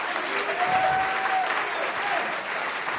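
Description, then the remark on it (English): A worship crowd claps steadily in praise of God, a dense wash of many hands at even volume throughout, with a faint sustained tone and murmuring voices underneath. “Clap your hands unto him and bless his name.”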